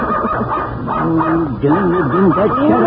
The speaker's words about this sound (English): Darn, dog of Danny's makes more noise.